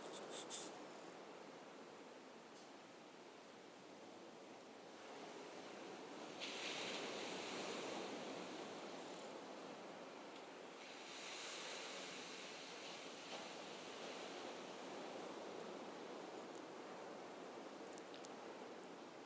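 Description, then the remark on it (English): Ocean waves below a screened-in lanai at Jensen Beach, Florida, on a cloudy but warm day, wash in a steady hiss of surf, swelling louder twice as breakers roll in and then easing back, with no voices. “And below me, as you may be able to hear, is the ocean.”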